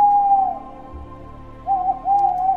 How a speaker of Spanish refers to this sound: Sintió que le brotaban plumas de los brazos y la cara, y cuando gritó, el único sonido que pudo emitir fue un suave ulular.